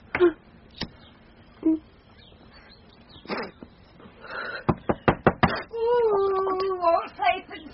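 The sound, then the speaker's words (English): Several sharp knocks on a door come in a quick run of about five raps, followed by a voice; quieter voices and a stray tap come earlier. “Open the blooming door”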